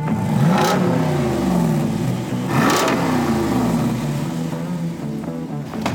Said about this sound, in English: This roided up 392, it's enough to pull the sunglasses right off your head. This is a muscle car engine in a Jeep.